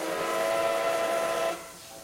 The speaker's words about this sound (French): Aujourd'hui, le Train de la Fraise recrée le voyage du 19e siècle avec une locomotive à vapeur de la moitié du 20e siècle, avec des wagons en bois